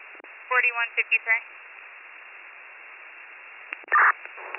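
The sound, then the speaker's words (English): Narrowband radio audio with hiss, carrying brief warbling, harmonic-rich tone bursts early on, then a short louder tone burst near the end: fire dispatch paging tones sent by county dispatch to alert a fire department to an incident on Old Mine Road. “Receipt, I'll drop tones for them.”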